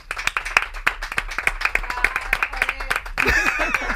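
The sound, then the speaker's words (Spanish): A crowd claps steadily in a dense burst of applause, many hands striking at once, with a brief swell of cheering and voices near the end. “Sí, un aplauso para una persona que si hay que hablar de hacer el ridículo, tiene un máster,”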